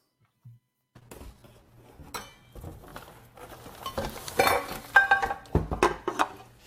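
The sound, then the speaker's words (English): Metal pots and pans clatter and clank as they are unpacked, with repeated bangs and scraping knocks that grow busier and louder toward the end, with no voices. “Pots and pans need a home too.”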